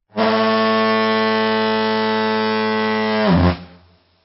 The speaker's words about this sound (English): sounded the Alphorn as a foghorn, and as the boat pulled down the river towards the fog bank that indicated the route towards the open sea